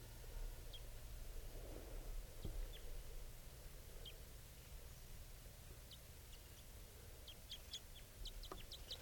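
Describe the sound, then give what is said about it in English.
A wild male bird gives faint, high, rapid chittering notes as it comes down from a treetop and approaches, scattered at first and then bunched into a quick burst near the end, over a steady low rumble of outdoor noise. “That's him chittering on approach.”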